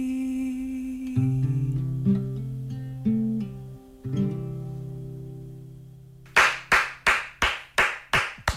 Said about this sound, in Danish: Jeg skal lige unmute alle sammen. Så klapper vi! Sådan der.